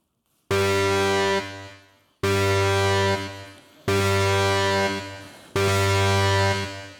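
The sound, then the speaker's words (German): An alarm blares in four loud, evenly spaced blasts, each a low, buzzy, harmonic-rich horn tone lasting over a second before cutting off, with no voices. “Also es geht erst einmal der Alarm los.”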